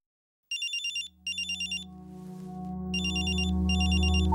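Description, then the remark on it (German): A telephone with a handset rings with a bright, rapidly trilling electronic tone in three clear bursts, while a low, swelling musical drone builds underneath. “Der 19-jährige Faisal hebt den Telefonhörer ab.”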